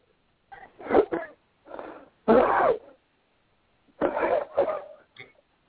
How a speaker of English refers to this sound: I hear you coughing, so come on through.